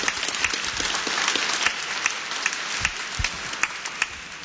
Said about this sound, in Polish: Witam serdecznie i brawa od razu dla pana redaktora.